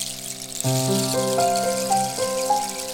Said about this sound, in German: Sie hörte das Plätschern des Wassers die ganze Nacht.